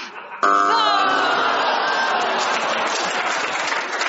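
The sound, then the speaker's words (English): A panel-game audience bursts into loud applause when a contestant pauses, after a brief quiet moment, dense clapping mixed with a few cheers and whoops, sustained steadily to the end. “Why did you clap when she paused?”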